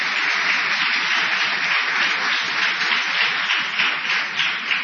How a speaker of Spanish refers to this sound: Vamos a extender la ovación para honrar a Patricio Barton.